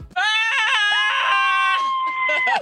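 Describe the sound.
Two voices scream together on a count of three in one long, loud, sustained shriek lasting about two and a half seconds, pitched high and steady before cutting off abruptly.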